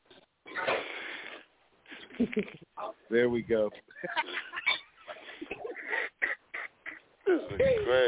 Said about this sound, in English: Hey, can we get a moment of silence for the snore?